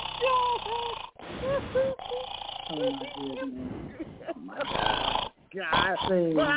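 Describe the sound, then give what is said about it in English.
A voice imitates snoring with a run of raspy, rattling breaths and snorts, loud, in irregular bursts with a few brief pauses between them. “Oh, we got that snore too. We got the snore for you too.”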